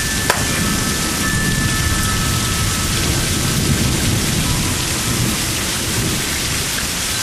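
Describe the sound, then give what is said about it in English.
A sharp thunder crack right at the start, then a deep, continuous rumble beneath steady, heavy rain hissing throughout. No voices are present. “Yeah, that loud clap that we heard, I'm pretty sure that...”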